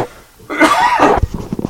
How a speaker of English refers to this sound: I did it again. I just like coughing on you, apparently.